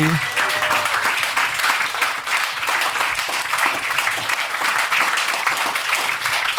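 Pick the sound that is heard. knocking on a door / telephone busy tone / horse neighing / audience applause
audience applause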